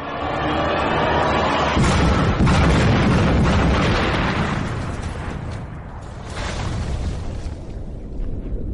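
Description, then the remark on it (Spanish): A powerful explosion set off by a fuse, heard from about 10 metres away, erupts into a deep, roaring blast with a noticeable shock wave that rumbles heavily for several seconds, easing slightly partway through before surging again, with no voices. “Sí, se nota la onda expansiva.”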